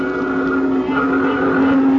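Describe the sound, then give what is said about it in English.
A dense, continuous roar of heavy street traffic, with loud engine drone and a steady hum holding constant from start to finish. No one speaks. “And the traffic was something terrible.”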